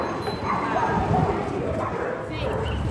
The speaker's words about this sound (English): Dogs in Naples.